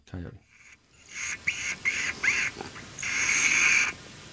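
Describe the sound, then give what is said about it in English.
A coyote lip squeak call: a run of shrill, nasal squeaks, four or five short bursts followed by one longer drawn-out squeal. A brief voice sounds just before them. “It's called the lip squeak of a coyote.”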